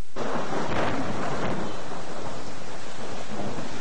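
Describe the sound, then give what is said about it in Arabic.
A loud, continuous roar of a storm striking Lebanon, especially the Sur area in the south, with heavy rain, thunder rumbling low throughout and a couple of sharper crackling surges near the start, no voices present. “إلى أحوال الطقس، حيث تضرب عاصفة لبنان مخلفة وراءها أضرارا كبيرة في الممتلكات والمزروعات، لا سيما في منطقة سور.”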